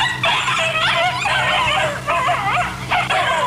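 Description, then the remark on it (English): A crowd of dogs in a dog pound yips, barks and whines all at once, a dense, continuous racket of overlapping high-pitched cries with a couple of brief lulls, loud. “Gee, it sure is noisy down here. The dog pound, isn't it? Yeah, there sure are a lot of dogs.”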